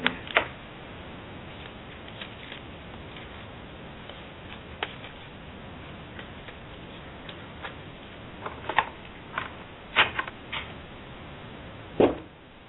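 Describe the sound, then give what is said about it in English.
Tarot cards being shuffled: soft, irregular clicks and brief papery snaps scattered over a quiet, faint background hiss, with a few sharper flicks toward the end and no talking. “All right, I'm shuffling the cards.”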